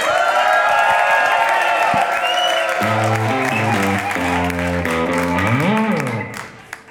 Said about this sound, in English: Back to the live music now. I bet you are all holding your breath in anticipation. Please give a huge cheer and welcome back to the stage,